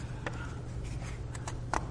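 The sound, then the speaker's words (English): Several short papery rustles and crinkles, fairly soft, as thick paper pages are handled and shifted, scattered irregularly over a steady low background hum. “Thick paper.”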